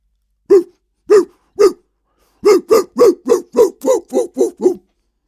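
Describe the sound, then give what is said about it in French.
A dog barks loudly: three evenly spaced woofs, a brief pause, then a quick burst of about eight more in steady rhythm, with no voices. “Le chien. Parfait, bonne réponse.”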